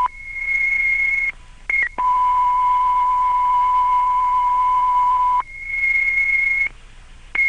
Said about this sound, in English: 8084, requesting that a transmission be made with tones, advising all resources operating at this scene to switch to the Manhattan South frequency.